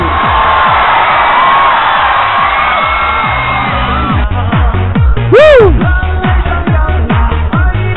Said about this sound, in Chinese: 哇，今天晚上的宝贝你们非常的牛逼，能否来点尖叫声？